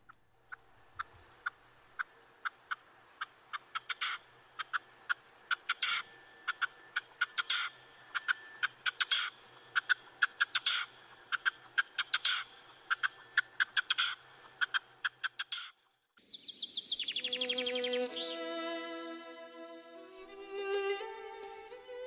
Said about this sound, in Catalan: Doncs, si et sembla, tornem a escoltar el cant de la perdiu roja.